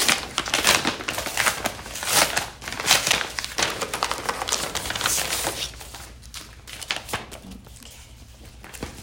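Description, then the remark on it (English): Scissors snip through a paper envelope in a series of crisp cuts, followed by crinkling and rustling paper as it is handled, with no talking. “Would you pass me your scissors, please?”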